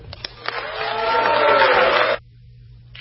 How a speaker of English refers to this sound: You can see not overwhelming applause, though some from the Republican side.